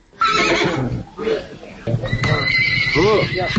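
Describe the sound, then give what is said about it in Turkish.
A horse neighs loudly and repeatedly at a livestock market where horses are sold, its shrill whinnies rising and falling over a busy background of crowd chatter and voices. “Bazarda heyvanlar satılan yerdə at satanlar da var.”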